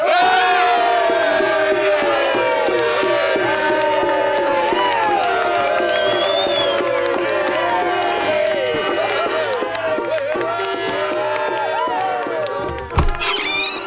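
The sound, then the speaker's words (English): A large crowd cheers and shouts continuously, a dense roar of many voices with rising yells, steady and loud throughout before a brief thump near the end. “You had the crowd eating out the palm of your hand. Listen!”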